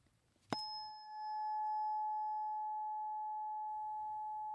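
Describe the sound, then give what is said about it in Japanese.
A tuning fork is struck once with a sharp metallic tap, then rings out as a pure, steady mid-pitched tone with faint higher overtones, sustaining evenly for several seconds with no voices. “この音を心が望むならこの音叉を選んでください。”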